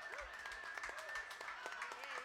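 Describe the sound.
An audience claps steadily for a couple of seconds, with scattered sharp hand claps over a constant crowd murmur and some voices mixed in. The sound stays moderately loud throughout.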